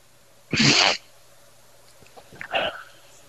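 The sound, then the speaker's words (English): A goose call is blown at white-fronted geese while hunting: one loud, raspy half-second blast, then after a pause a shorter, higher, softer yelping note. No one speaks. “I just thought I'd give them a toot to see if they play a little”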